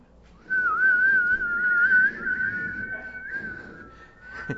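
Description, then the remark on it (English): A church audience whistles together, holding one long, steady note that wavers slightly in pitch, with a low rumble of crowd noise underneath. “Maybe you've never whistled in church before.”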